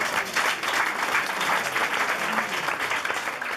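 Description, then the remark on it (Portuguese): An audience at an international cooking competition claps steadily, a dense wash of many hands applauding at an even loudness for a few seconds without a break. “Bem, um aplauso!”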